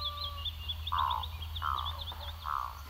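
Frogs croak in three spaced, throaty calls over a steady chorus of rapid, high chirping trills, with a low, constant rumble underneath and no voices.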